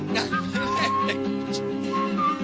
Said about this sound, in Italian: Faccio fischio.